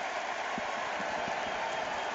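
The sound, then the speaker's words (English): An excited tennis crowd at a match involving Nadal and Andrea Seppi, as the roof is about to be closed because of rain, produces a dense, steady roar of cheering and clapping that holds at a constant level for the whole two seconds, with no clear voice standing out. “But you can hear the crowd getting excited.”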